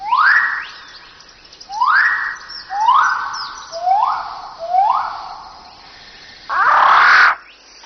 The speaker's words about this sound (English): A rifle bird of paradise.